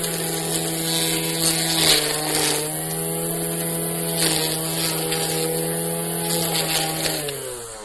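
A lawn mower engine runs steadily, a loud, continuous buzzing drone with a slight drop in pitch near the end. No one speaks.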